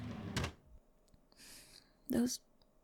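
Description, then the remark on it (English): A drawer in a bedroom slides open with a brief rasping scrape, framed by a sharp knock just before and a louder clunk right after; the drawer holds hoodies. “Don't open that drawer, please.”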